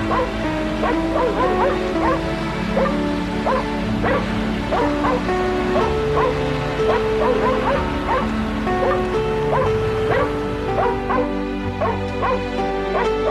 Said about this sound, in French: Son mari revient. Il entend japper dans l'appartement. Il demande « Qu'est-ce que c'est ? Qu'est-ce qui se passe ?»